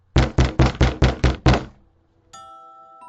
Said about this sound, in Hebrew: מישהו דופק בדלת. מי שם? אמר היהודי השמח לאשתו, אל תפתחי את הדלת. פורים היום, אף אחד לא יכול היום להפריע לשמחה שלנו. אבל הדפיקות לא הפסיקו.